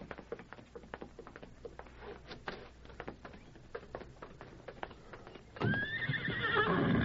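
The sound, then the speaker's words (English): Steady hooves clip-clop in a brisk rhythm for several seconds in a patio, then a horse lets out a loud, drawn-out whinny that rises and trembles to the end. “The horses are in the patio.”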